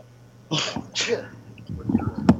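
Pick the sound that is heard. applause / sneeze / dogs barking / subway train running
sneeze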